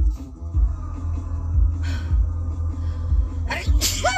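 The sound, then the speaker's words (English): A sharp, breathy sneeze bursts out near the end over a low rumbling background, preceded by a softer breathy exhale; fairly loud. “I'm sneezing.”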